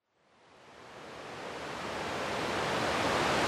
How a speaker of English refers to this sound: So yeah, it was it's a little tricky getting down to this waterfall. That was a lot steeper than I remembered, strangely.